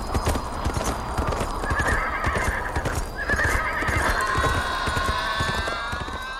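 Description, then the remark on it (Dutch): Horse hooves of a trotter horse and a mule clip-clop in a steady, busy rhythm as they are taken to a water well, while a horse lets out drawn-out neighs and whinnies over the hoofbeats. “Maar gisteren, tegen de avond, en tijdens een stofwind waar je niet door kon zien, waren onze knechten met mijn muilezel en mijn paard een trotter naar de waterput geweest.”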